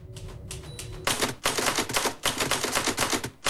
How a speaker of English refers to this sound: Replacing the cotton wool in his ears, Barton sits down again to type.